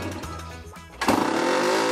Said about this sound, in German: ich würde sagen, ich höre draußen schon die Mopeds